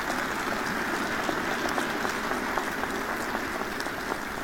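Steady, dense applause from an audience thanking the speaker's wife, a continuous wash of many hands clapping at an even level for several seconds with no voices over it.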